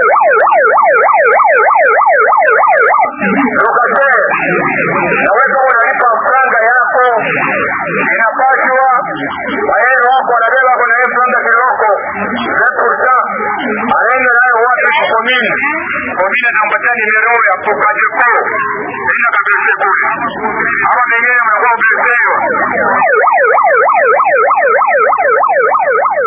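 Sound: sirens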